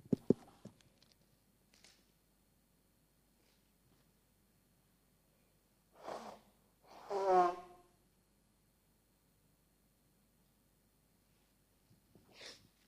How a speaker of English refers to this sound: Let me just pause there as I blow my nose.